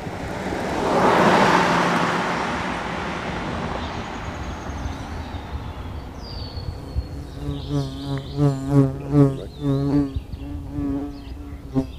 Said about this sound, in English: We just got a visit up close from a bee, and we can hear the birds as well.